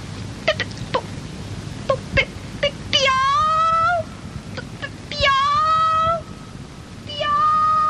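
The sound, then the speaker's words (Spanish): A voice imitates a cat's meow blended with bird chirps: several quick, sharp chirping clicks, then three drawn-out, wavering meow-like calls, fairly loud, with no talking. “No maullaba, no piaba, maullipiaba.”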